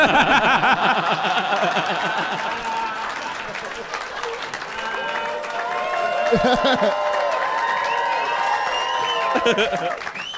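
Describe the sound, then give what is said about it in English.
A live audience applauds steadily for about ten seconds, largely because a guest was Snapchatting, the clapping blended with crowd chatter, laughter and a few raised voices, fairly loud throughout. “I got to tell the listeners that applause was, a lot of that was just because the Morin was Snapchatting.”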